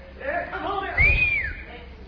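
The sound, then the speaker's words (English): A person whistles one short, clear note that swoops up and then glides back down, following a brief stretch of low murmuring voice. The whistle is moderately loud. “I whistle. Do you ever whistle? I whistle once in a while. Can't keep from it and do it before I notice it.”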